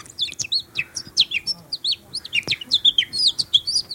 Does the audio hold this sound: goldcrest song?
yes